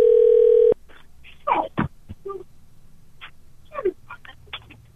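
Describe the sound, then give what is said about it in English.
A loud, steady telephone tone sounds for under a second as a call is placed to a woman's husband, then cuts off abruptly, followed by quieter, muffled voices and brief scattered sounds. “Let's call her husband. See if her husband hangs it right up.”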